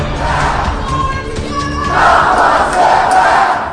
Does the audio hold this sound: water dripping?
no